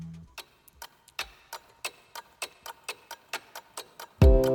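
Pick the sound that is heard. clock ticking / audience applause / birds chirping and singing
clock ticking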